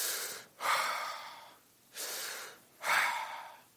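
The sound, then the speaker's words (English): A voice imitates heavy breathing: loud, airy breaths alternating in and out at a slow, steady pace, with no talking. “And sure enough, you could hear the heavy breathing right at our screen.”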